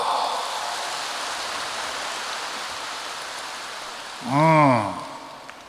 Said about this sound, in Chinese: 鼓掌。